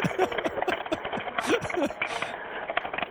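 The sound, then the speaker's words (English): Rapid, forceful typing on a keyboard by a dispatcher taking information from a caller: a dense, steady clatter of sharp key clicks, with a faint voice murmuring underneath at moments. “Okay, typing very fast and hard.”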